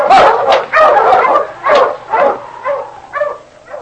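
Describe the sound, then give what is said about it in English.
A pack of sled dogs barks and yips excitedly in quick, overlapping bursts, loud, with a few higher whining yelps mixed in and no talking. “Now let's go. Mush!”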